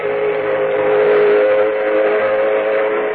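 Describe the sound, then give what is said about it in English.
A steam locomotive whistle blows one long, loud, steady note with a breathy, hissing edge, held unbroken for about three seconds with no voices. “And a fella called Stevenson over in England or somewhere started pulling whole wagon trains with one of them steam dinguses, a locomotive, he called it.”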